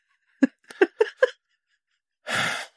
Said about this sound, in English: You can't yawn during the podcast. We've talked about this before. Sorry. It just came over me.